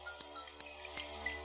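rain falling

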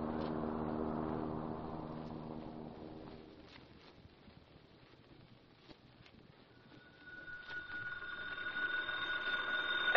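telephone ringing

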